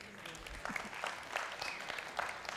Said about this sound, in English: yeah, you can clap, give the Lord a hand.